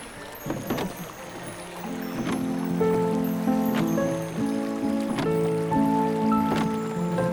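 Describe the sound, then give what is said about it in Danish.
A steady wash of river water flows continuously under a bridge, with a few sharp knocks or splashes and faint sustained tones underneath. No one speaks. “Du får øje på en flod, der løber under den bro, I står på.”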